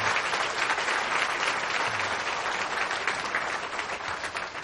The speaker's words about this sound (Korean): 우리 박수로 한번 감사를 드려주시기 바랍니다.